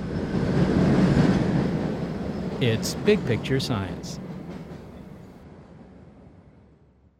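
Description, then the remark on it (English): A Boston subway train rumbles loudly into a T station, wheels clattering and brakes hissing, the low roar slowly fading as it slows; a voice speaks briefly over the noise. “Coming up, the origin of noise, and which is louder, the space shuttle blasting off from Cape Canaveral or a Boston subway train pulling into a T station?”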